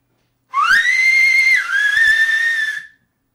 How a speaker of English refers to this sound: Puis elle siffla de nouveau.